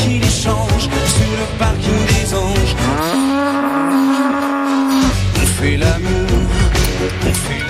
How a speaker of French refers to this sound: On rappelle que vous allez devoir me dire quelles sont les paroles masquées par le meuglement de Choupette.